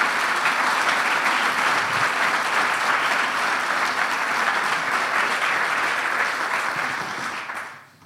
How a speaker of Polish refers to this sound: Wielkie brawa.